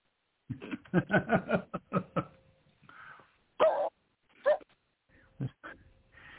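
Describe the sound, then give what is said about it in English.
A male dog lets out a quick flurry of sharp barks, then pauses before a few more scattered barks and a whiny yelp, with no one speaking. “Your dog disagrees with you.”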